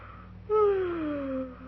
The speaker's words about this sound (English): Will you please stop yawning? It frightens me. Why? Your mouth is open, and I'm afraid you're going to talk.